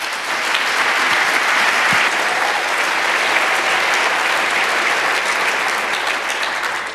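A crowd applauds steadily for several seconds, a dense, even wash of many hands clapping at constant loudness with no voices on top.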